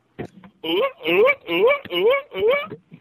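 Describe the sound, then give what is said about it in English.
A person imitates a performing seal in a circus, producing five loud, rising, honking barks in a quick steady rhythm after a short grunt. “That's a performing seal in a circus.”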